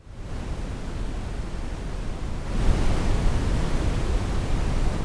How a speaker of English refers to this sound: Let's move onto the spectrum, into the brown noise spectrum.